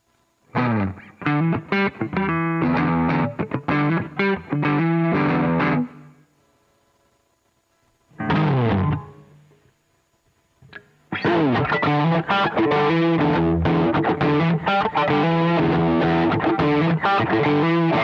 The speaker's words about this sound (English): So here now we can play guitar and that's it. Excellent. So play a little bit more of a clean sound, then go to crunch.